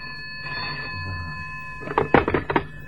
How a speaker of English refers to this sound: The phone